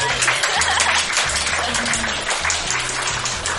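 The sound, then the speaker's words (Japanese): Steady, dense applause on a radio show, at the start of a segment that reads listeners' letters: a continuous crackle of many overlapping claps holding at an even loudness throughout, with a faint low murmur beneath it. “拍手屋さんがいるよ。”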